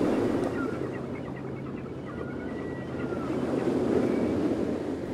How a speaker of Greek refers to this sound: Κάθισα ώρες πολλές στις αυλές του ακούγοντας τον παφλασμό των κυμάτων.